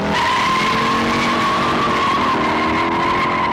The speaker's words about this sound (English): It was the star of one of film's most famous car chase scenes, a 1968 Ford Mustang GT screeching through the hilly streets of San Francisco.